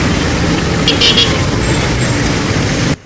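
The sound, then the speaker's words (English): Dense rush-hour road traffic, cars crawling bumper to bumper, rumbles steadily, a continuous wash of engine and tyre noise with a brief higher hiss midway, then cuts off abruptly near the end. “A sea of cars crawl bumper to bumper, thickening the air with harmful particles and gases.”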